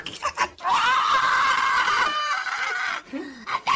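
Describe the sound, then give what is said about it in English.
A voice lets out one long, loud, sustained scream lasting over two seconds, acted out as a scream coming from a basement, with a few short vocal noises just before and after it. “You hear this scream coming from the basement as you get to the door.”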